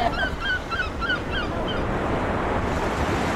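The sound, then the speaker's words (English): Steady rushing surf washes along a quiet beach under a blustery wind, with a few harsh seagull calls ringing out over the roar during the first half. “Sounds therapeutic. Especially when the tides are coming. I like it when it's quite windy actually, and when the beach is quiet.”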